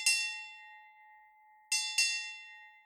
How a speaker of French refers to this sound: pourrez entendre la cloche retentir toutes les demi-heures dans quelques-unes des galeries du musée. C'est ce que l'équipage entendait à bord du Marie-Rose, pour savoir l'heure. La cloche sonnait par paire de coups, par exemple lorsqu'elle faisait...